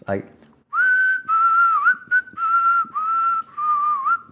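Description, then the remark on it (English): A person whistles a short melodic tune from the film Kill Bill, the song Daryl Hannah's character whistles in the hallway. It is clear, in several sustained phrases with brief gaps and small pitch slides between notes, preceded by a faint breathy sound. “And she also whistles that song in the in the hallway.”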